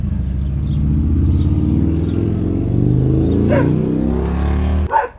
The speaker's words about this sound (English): There he is. See? Motorcycle driving by.